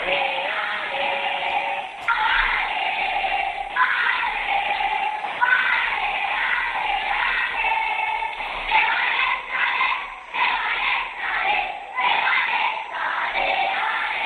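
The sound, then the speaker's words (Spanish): A crowd chants "Leganés" together in unison, a loud, dense wall of voices that holds steady and then breaks into rhythmic, repeated bursts toward the end. “Qué acompasados, ¿eh? Parece un coro de cámara.”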